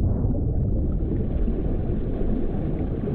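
A deep, dull rumble as a big piece of an Arctic iceberg breaks off, heard by a diver 40 metres underwater, heavy in the low end and sustained at an even loudness for the whole stretch, like a muffled explosion rolling on without pause.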